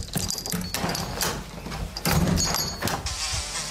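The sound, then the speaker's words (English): A house door is opened with a few sharp clicks and rattling knocks, and a fly comes in, its faint buzzing heard. “Open the door.”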